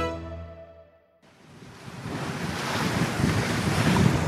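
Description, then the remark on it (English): Steady wind gusts and rolling ocean surf around the giant research vessel Polarstern, halted and swaying in the waves of the Atlantic Ocean, build to a loud, continuous roar, following a brief sustained tonal hum at the very start. No one speaks. “The giant research vessel is swaying in the waves off the east coast of Africa.”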